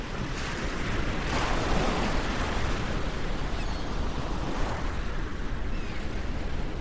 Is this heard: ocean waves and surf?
yes